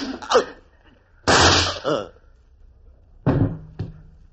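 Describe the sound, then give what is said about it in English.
Several sharp revolver shots ring out in an irregular sequence, each a loud blast with a brief ragged tail, separated by short quiet gaps. “I heard gunfire.”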